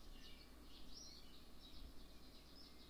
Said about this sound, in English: And these birds are getting better. They're getting better at chirping. They probably found a good stash of some good stuff. That's why they're happy.